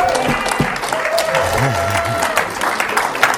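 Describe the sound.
An audience applauds steadily at a Fellow Laborers International Network teaching, a dense wash of many hands clapping at an even loudness for a few seconds, with a faint voice or murmur mixed underneath.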